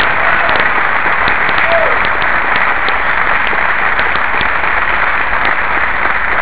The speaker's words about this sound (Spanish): Si va a aplaudir, aplauda en serio. De un aplauso grande al Señor y al Espíritu Santo. Gloria. Aleluya.